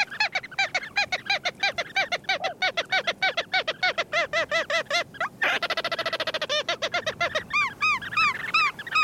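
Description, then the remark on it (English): Ross's gulls call in a rapid, nearly continuous series of sharp, nasal yelping notes, several birds overlapping and fairly loud, with no voices. “Ross's gulls breed on the coast of Greenland and northern Siberia, where they feast on flying insects hawked from tundra ponds.”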